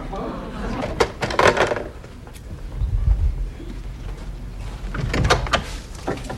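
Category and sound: household object, someone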